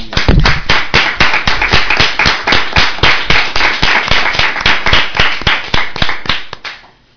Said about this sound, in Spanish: Y os vuelvo a decir que un gran aplauso para ellos.